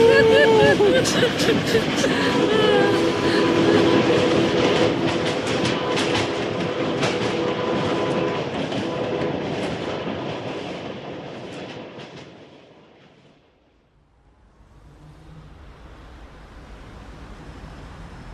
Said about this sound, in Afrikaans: So ry die trein, so ry die trein, die Kimberliese trein. Hoor daar hoe stoom my.